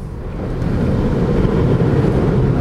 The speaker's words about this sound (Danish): Og der stod der simpelthen en kaskade af vand op rundt omkring bilen, og den bevæger sig altså fremad. Det her, det er aquaplaning, der vil noget, og alligevel ikke.